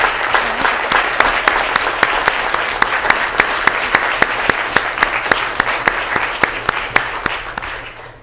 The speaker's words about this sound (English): Thank you very much for allowing us to come and share about the Buddy Book Project. Let's join in and give them a round of applause for their hard work and dedication.